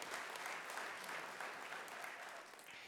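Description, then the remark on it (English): Steady applause from an audience, dense clapping that fills the whole clip at an even, fairly loud level before easing slightly at the end. “And we can clap for that.”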